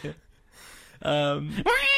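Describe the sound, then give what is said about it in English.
A voice hums and wails a loud, bending melody in imitation of a saxophone solo, with sustained tones that slide upward, without any words. “What's that saxophone solo part?”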